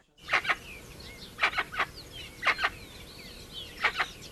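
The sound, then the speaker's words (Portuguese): A guan (jacu) gives loud, harsh calls in short bursts of two or three notes, repeated four times at a steady pace, over a soft outdoor background with no talking, in woods in front of a house in Brazil. “Jacu.”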